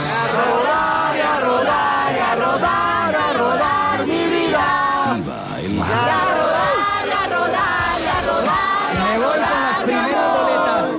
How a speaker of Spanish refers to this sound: estaba escuchando voces. Sí, como gente cantando por allá